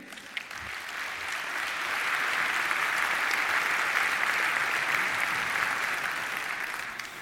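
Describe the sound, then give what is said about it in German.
Steady audience applause, a dense wash of many hands clapping that swells slightly and holds for several seconds, with no one talking, welcoming a speaker to a congress talk. “Und jetzt ist der ein Applaus”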